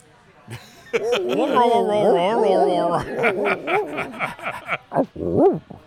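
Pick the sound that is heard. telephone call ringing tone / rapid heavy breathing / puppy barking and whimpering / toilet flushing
puppy barking and whimpering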